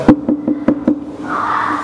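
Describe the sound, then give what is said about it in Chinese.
Five firm, evenly spaced knocks on a door by someone standing outside, loud, followed by a steady hiss of background noise. No one speaks. “我站在门外叩门”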